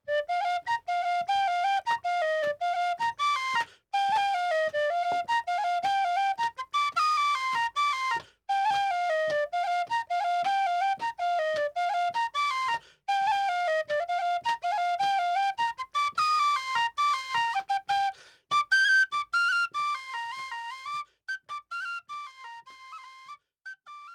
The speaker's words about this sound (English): School of Music here playing a little live tin whistle for us. He's going to play us out.